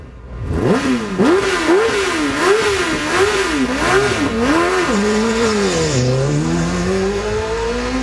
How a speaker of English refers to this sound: That is a 150 mile per hour lawnmower that was ran of this past weekend.